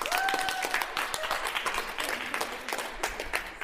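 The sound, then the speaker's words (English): An audience at the University of Bradford applauds a petition standing at nearly 150,000 signatures, with dense, steady clapping that sustains at an even loudness throughout, with a brief whistle-like tone near the start and no speech. “which currently stands at nearly 150,000, worth a round of applause in itself.”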